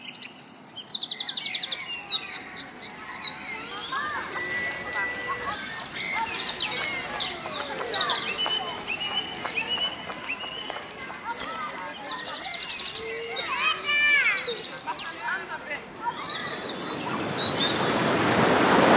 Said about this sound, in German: habe ich nochmal ein Konservenglas mit englischer Gartenstimmung dabei. Also diese typische Mischung aus Park, Vögeln, Biergarten, entspanntem Zusammensein. Achtung, hier kommt sie.